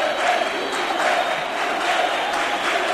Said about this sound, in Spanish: Ahora cantan otra vez Lopetegui.